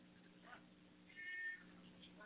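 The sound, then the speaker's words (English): A cat named Tomcat Sawyer meows once to be let in, a drawn-out, rising-and-falling cry over a low steady hum, with a fainter mew just before it. “Well, my cat is meowing to come in.”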